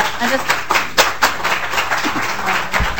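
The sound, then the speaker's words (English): A burst of audience clapping at a legislative committee hearing after testimony calling for GMO labeling, steady and dense with several sharper claps standing out, holding at a moderate level throughout with some murmuring voices underneath. “Representative Clark would tell you we don't do the clapping thing.”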